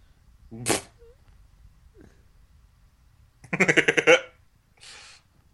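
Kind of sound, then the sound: sound effect, video game explosion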